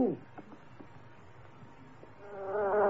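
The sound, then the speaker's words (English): Flies hovering over fish bones, buzzing with a thin, wavering drone that rises and falls, growing louder and more tonal toward the end. Faint murmurs of a voice sit underneath. “These flies. The way they hover over the fish bones.”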